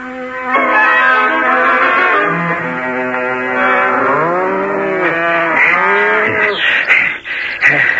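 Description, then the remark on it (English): A herd of cows and buffaloes, being separated into cows, bulls and buffaloes, lowing loudly, several long, overlapping moos that rise and fall in pitch, with no talking. “Gray Brother and I have separated the cows from the bulls and the buffaloes.”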